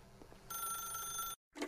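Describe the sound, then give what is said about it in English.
A telephone rings with a bright, sustained electronic trill for about a second, then cuts off abruptly, followed by a brief pause and a short noisy rustle, as if the receiver is picked up. “If you can truly place your faith in another, then pick up the phone.”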